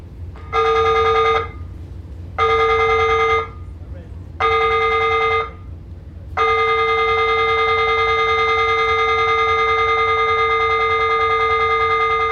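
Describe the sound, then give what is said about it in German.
The fire alarm of the ship RMS in the Atlantic blares during a safety drill in a loud, steady buzzing tone: three short blasts of about a second each, then one long unbroken blast, over a low engine rumble. “Feueralarm auf der RMS.”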